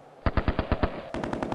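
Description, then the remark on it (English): Rapid bursts of automatic gunfire at night in Mogadishu, a steady volley of about six shots followed straight away by a quicker, denser string of shots, sharp and moderately loud with no voices. “You can hear gunshots in Mogadishu during the night.”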